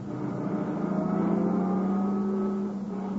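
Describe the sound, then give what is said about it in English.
A car engine hums steadily and rises slightly as the car pulls up a little in front of a cabin, a continuous motor drone with a low, even pitch and no voices. “Let's pull up a little.”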